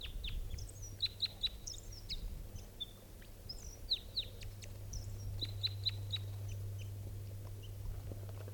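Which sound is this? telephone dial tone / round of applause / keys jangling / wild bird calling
wild bird calling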